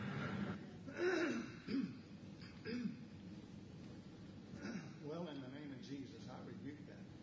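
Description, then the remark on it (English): A man clears his throat several times in rough, gravelly bursts, fairly loud, with short breathy pauses between the efforts and some voiced grunting mixed in. “I think I didn't clear my throat once all morning.”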